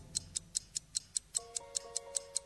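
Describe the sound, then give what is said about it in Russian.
A clock ticks steadily, about a dozen crisp, evenly spaced ticks in quick succession, with faint sustained tones coming in partway through. “Часы тикают.”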